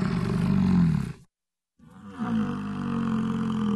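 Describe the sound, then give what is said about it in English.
A male big cat roars twice, loud and deep with a rough, grumbling texture; a short silence separates the calls, and the second one bends downward and back up in pitch. “There's different parts of the call. Some will be long, some will be short, some have higher pitch or lower pitch.”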